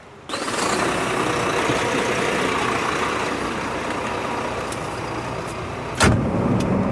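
The engine of a large red Norbert d'Entresangles truck idles outside the railway station in Le Havre, Seine-Maritime, France, a steady, loud low rumble that holds evenly throughout, with a brief sharp knock near the end. No one speaks.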